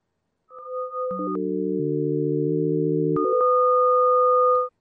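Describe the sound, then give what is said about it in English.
Pure electronic sine tones sonifying V velocity data from a calculation sustain as steady chords: a major triad when the value is below a threshold, otherwise a higher-pitched series of tones. They drop from a high two-note pair to a lower three-note triad, then step back up to the higher tones. No talking. “When the value of the V velocity is below a threshold, it sounds as a major triad.”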